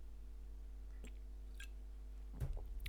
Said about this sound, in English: Excuse me while I take a sip of a beer.